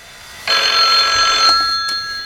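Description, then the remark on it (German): A telephone bell at a headquarters rings loudly and continuously for about a second, a bright metallic trill, followed by a couple of brief fainter clicks or rattles. “Schon bald klingelte in der Zentrale das Telefon.”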